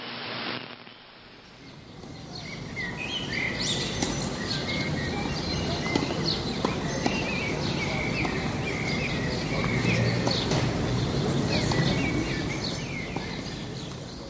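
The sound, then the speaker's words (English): Blackbirds and starlings sing together in a busy, continuous chorus of whistles, chirps and chatter, with a steady low rumble underneath and no one talking. “Jeg kan med det samme stedfæste dem som velfodrede solsorte og stære af den højere middelstand”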